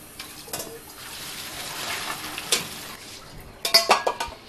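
Spaghetti being tossed and mixed with sauce in a pan, with soft wet stirring and a few sharp clinks of a utensil against the pan near the end, without talk.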